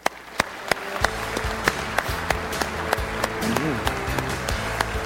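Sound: audience applause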